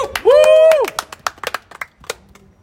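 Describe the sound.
A short burst of cheering raised for a guest: a loud, rising-and-falling shout from a voice, followed by a quick patter of hand claps and a few more vocal whoops fading out.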